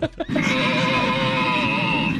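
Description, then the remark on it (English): Two short grunting bursts give way to a long, loud, wavering moan with a bleating, nasal quality, carried over an airplane PA with a steady hum underneath. “And that person would not stop making weird moaning and grunting sounds.”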